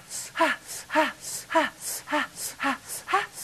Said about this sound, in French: Ça, par exemple, ce n'était pas de la marijuana, c'était de la respiration orgasmique. On remarquera pour la blague que c'est la même chose quand les femmes simulent.